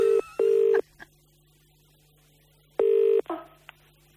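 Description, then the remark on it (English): A telephone ringing tone, calling a woman back, repeats in a double-burst pattern, two short electronic rings, a long pause, then another ring, followed by a click over a faint steady hum. “So I phone her back, but check this out, right?”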